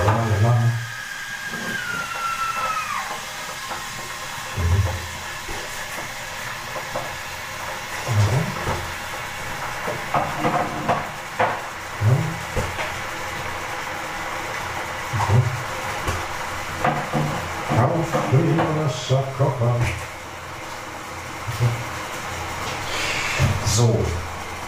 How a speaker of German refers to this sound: So, kann mein Wasserkocher erstmal an. Genau, läuft.